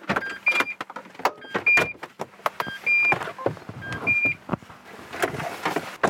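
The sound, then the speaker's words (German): A car being parked in front of Haus St. Ulrich and left: repeated short electronic beeps over mechanical whirs, sharp clicks and clunks of doors and fittings, with no one speaking. “Ulrich mit einem herrlichen Blick über die Landschaft parken wir jetzt unser Auto und ich freue mich auf die Einblicke und Eindrücke, die ich an diesem Wochenende erhalten werde.”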